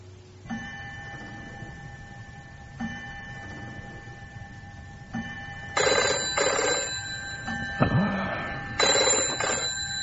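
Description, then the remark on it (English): A telephone rings in repeated long bursts with a bright, metallic trill, growing louder and harsher toward the end, with no voices. “Any time, day or night, if you need my help, just pick up that phone and call me.”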